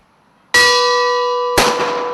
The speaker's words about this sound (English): The bell tolls at a daily ceremony in Kiev as Ukrainian soldiers who died fighting Russian-backed separatist forces in the country's east are remembered.